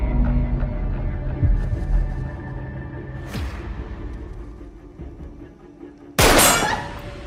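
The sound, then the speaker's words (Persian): A single loud gunshot, fired as a warning, cracks out near the end, ringing briefly before fading, after several seconds of low rumbling background with a fainter sharp snap partway through. “این شلیک برای هشدار بود، محفظه رو بده.”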